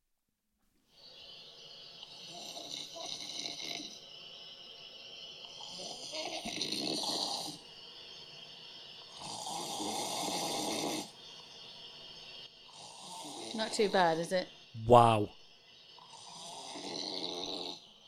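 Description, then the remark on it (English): A man snores in long, rough, rhythmic breaths repeated several times, with a steady hiss of rain underneath and a sharp snort near the end; people briefly comment over it. “I've got a random man snoring Fantastic.”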